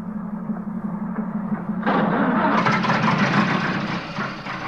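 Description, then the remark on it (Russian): A car engine starts with a low, steady rumble, then surges into a louder, rougher roar partway through and keeps revving without easing off. No one speaks. “Ну, в машину. Поехали!”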